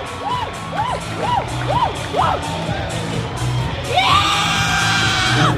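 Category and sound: crowd, baseball crowd cheering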